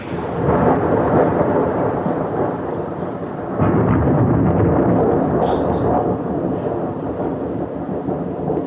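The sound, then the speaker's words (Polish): A heavy rain downpour outside a window roars steadily and loudly throughout, a dense continuous wash of sound that swells briefly partway through, with no voices present; the weather has suddenly turned cold and gloomy after being warm. “Zobacz, co się dzieje za oknem. Ulewa. Strasznie.”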